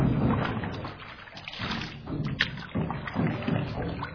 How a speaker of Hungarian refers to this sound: Beülünk egy csónakba? Üljünk!